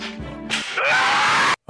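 A loud, shrill scream in a video rises after a brief voiced sound, holds for about a second, then stops dead into sudden silence, as if chopped off mid-cry.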